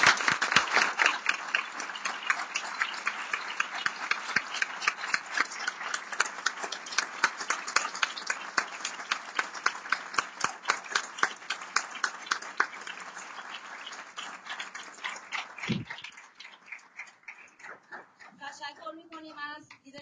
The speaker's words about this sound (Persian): خودتون رو تشویق کنید.